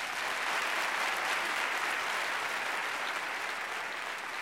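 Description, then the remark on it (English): Audience applause fills the whole stretch, a steady, dense wash of many hands clapping at an even loudness, with no breaks and no voices standing out above it. “Well, I know he won't be able to hear it, but let's give Harlow a big hand.”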